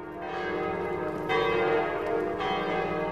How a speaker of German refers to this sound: Glocken läuten, wie ein altes Sprichwort sagt. Die Stadt hat zahlreiche Glockentürme.